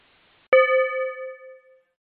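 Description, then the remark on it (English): A single clear notification chime, marking the move into breakout groups in a virtual meeting, rings out after a brief silence, a bright bell-like tone that sustains and fades smoothly over about a second and a half, with no voices. “So give me a second to break you out into groups, and as soon as you hear the chime, as always, you'll be able to announce yourself and have a virtual beer.”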